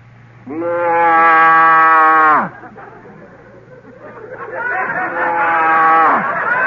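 A human voice imitates a Holstein cow's moo: one long, loud, sustained call that drops off sharply at the end, followed after a short pause by a second, rougher moo.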